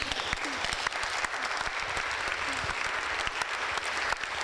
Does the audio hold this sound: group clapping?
yes